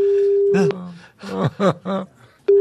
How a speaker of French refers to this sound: Ça sonne dans le vide chez Léa Calado